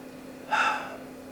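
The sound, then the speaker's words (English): A voice pronounces the Hebrew letters YHWH by themselves, making a single short, airy breath sound, soft, over a faint steady background hum with no talking. “If you just pronounce them by themselves, it sounds like breathing in and breathing out.”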